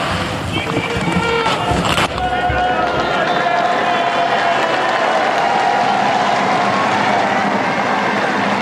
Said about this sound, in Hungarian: A megszokott köszöntés, illetve taps, az nem maradt el ma sem. Így köszönik meg a Szent Péter téren jelenlevő zarándokok Ferenc pápa áldását, az ő tanítását.